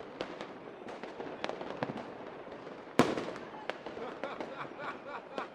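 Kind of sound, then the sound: sound effect, fireworks exploding outdoors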